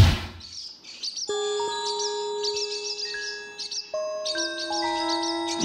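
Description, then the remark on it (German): Swallows flying over a roof terrace twitter in quick, high-pitched bursts of chirps throughout, layered over steady, sustained ringing tones that shift pitch now and then. No one speaks. “Schön, wie die Schwalben über unsere Dachterrasse segeln.”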